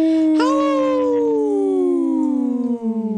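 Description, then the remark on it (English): A single long wolf howl that swoops up quickly, then glides slowly downward in pitch for about three seconds, loud and clear with a rich, tonal ring and no talking. “I was looking for this, Wendy. Yeah, the wolf. Howl!”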